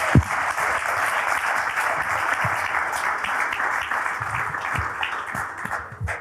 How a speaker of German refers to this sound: Deswegen glaube ich, hat das auch einen richtig fetten Applaus verdient, dass man sich so als Athletin die Zeit dafür nimmt.